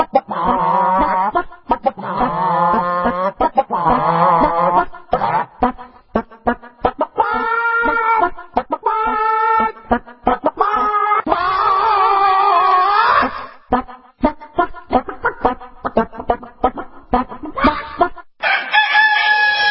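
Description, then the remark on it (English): Chickens cluck in quick, rhythmic bursts while a rooster crows loudly again and again, the calls strung together almost like a tune, with no voices present. “And of course, you heard our singing chickens.”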